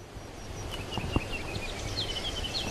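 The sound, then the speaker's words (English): Faint, high bird chirps recur at irregular intervals against a steady, low outdoor rush on a spring day by the Chilkat River, with a brief soft knock partway through and no voices. “It's a beautiful spring day on the Chilkat River. The birds are chirping.”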